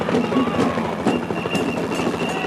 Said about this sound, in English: In the sky above Sydney CBD, there's a police helicopter circling.